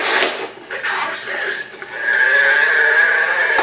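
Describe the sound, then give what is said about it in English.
A strange, distorted cow moo sound effect, oddly high and strained, wavering at first and then holding a long, loud, steady tone to the end. “That's a sick cow.”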